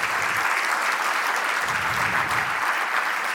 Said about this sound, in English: How about a round of applause for the people that did the Bible Museum? Steve Green, everybody.